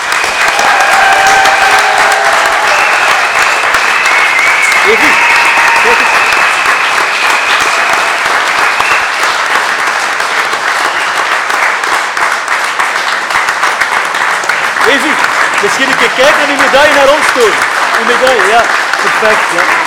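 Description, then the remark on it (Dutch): Loud, sustained applause from a large audience at a reception in Zelzate honouring Olympic youth slopestyle champion Evi Poppe, a dense steady roar of clapping that holds throughout, with scattered voices and cheers rising through it near the end. “Graag uw oorverdovend applaus voor Olympisch jeugdkampioen slopestyle Evi Poppe.”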